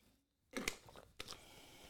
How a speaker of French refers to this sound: On va prendre une petite gorgée.